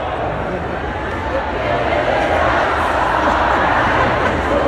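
A big concert crowd sings along together karaoke-style, a loud, continuous wash of many voices carrying a tune with no clear lead singer standing out, while the performer on stage conducts them and mouths the words.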